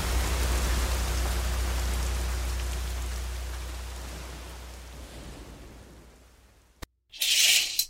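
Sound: rain falling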